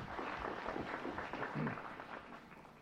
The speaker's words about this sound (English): I assume you are applauding for Jeff's reading, not my coming up to the stage.